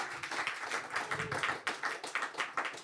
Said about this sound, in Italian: finalmente dopo più di un anno il ragazzo che mi piace mi ha chiesto di uscire! Woo! Applausi, applausi.